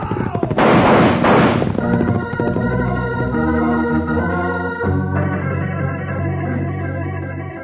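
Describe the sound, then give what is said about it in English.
A loud, dense burst of gunfire from a western shootout crackles for about a second, followed by sustained music with steady low tones and brassy chords playing on without the shots. “Well, unlimber your guns. Let's see if we can discourage some of these polecats.”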